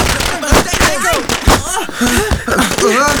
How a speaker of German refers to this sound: Wie aus dem Nichts schossen mehrere Knallfrösche in die Höhe, die jaulend umhersprangen und sich dabei in Tante Mathildas frisch gewaschener Wäsche verfingen. Dort explodierten sie mit lautem Krach.